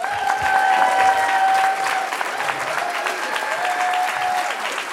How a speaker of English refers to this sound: And thank you for clapping for me being arrested.